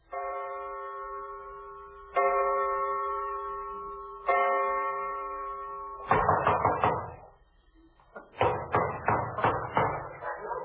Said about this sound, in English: Have you ever been awakened in the middle of the night by some character pounding at the door and hiccuping with a British accent? Well, I have.